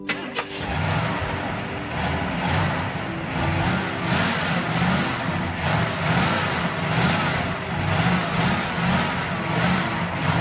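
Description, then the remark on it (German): A car engine cranks to life near the start, then runs loudly with rhythmic surges that sound like repeated revving, steady for about ten seconds, with no talking. “Nee, wo ist mit dem Auto schon wieder?”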